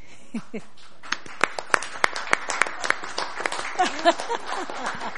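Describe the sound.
A small audience claps: sharp, irregular hand claps build up after a second and continue steadily at moderate loudness, with a brief voice murmur at the start and faint chatter underneath.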